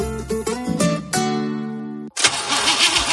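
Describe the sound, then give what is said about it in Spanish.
A car engine cranks with a strained, stuttering starter whine for about two seconds, then cuts off and gives way to a loud, rough, noisy rumble. Prominent, with no voices. “¿Problemas con la batería de tu coche?”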